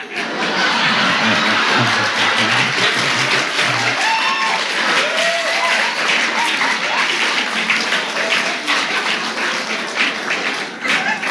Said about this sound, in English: That applause all came from the back part, not the Church of Religious Science.